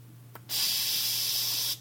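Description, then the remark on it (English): A voice imitates radio static with one steady, bright, loud hiss lasting just over a second, preceded by a tiny click and followed by quiet. No words are spoken. “That was my static sound.”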